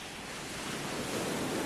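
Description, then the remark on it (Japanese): Ocean waves wash onto the shore in a steady, broad roar of surf that swells slightly louder toward the end, with no voices present. “私の涙がやってきた波に溶けて海に飲まれた。”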